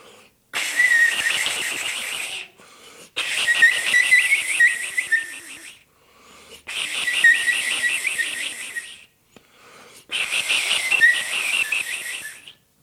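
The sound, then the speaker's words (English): Bright, shrill whistling from an iwabue, a Japanese stone flute made from a stone with natural holes, blown in one end while a finger moves over the other end, in four long bursts separated by short pauses, warbling and trilling like birdsong, fairly loud with no talking. “So that's a hole that goes through the flute, and I'm blowing in one end and moving my finger around on the other end.”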